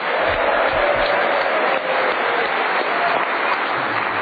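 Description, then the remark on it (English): Sustained, loud applause from a studio audience for panel game leader Clement Freud, a dense wash of many hands clapping steadily throughout with no one speaking over it. “So, Clement, you are a judge to be out in the lead and get that extra special round of applause.”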